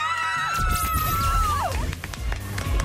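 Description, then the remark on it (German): A woman lets out a loud, high-pitched scream of joy on her family from Schwarzenburg winning a new kitchen worth 90,000 francs, held for over a second before sliding downward in pitch, over a busy, noisy background. “Das war ein richtiger Freudenschrei jetzt von dir.”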